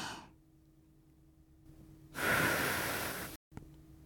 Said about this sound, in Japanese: マスク越しの吐息を吹き込みながら